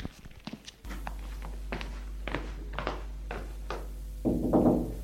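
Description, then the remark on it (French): A series of dull, woody knocks on the door of the Primate of the Gauls' office, made by a secretary in a cassock, unevenly spaced over a steady low hum, ending in a brief louder rush of noise. “Le secrétaire va frapper à la porte.”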